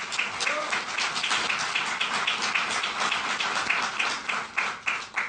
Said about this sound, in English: So give Lunar Outpost a round of applause. Congratulations.